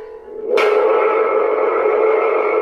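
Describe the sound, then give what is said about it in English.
A thunder sound-effect instrument is shaken in a studio: after a brief quiet start, a sudden loud crash swells into a steady, metallic rumbling roar that sustains to the end, with no one talking. “This is supposed to be thunder?”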